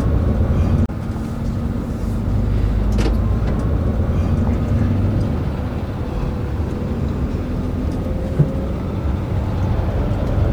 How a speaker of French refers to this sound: Et c'est parti pour 15 heures de bus.